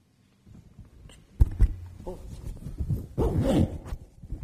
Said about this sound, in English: Oh. Sorry for the zip.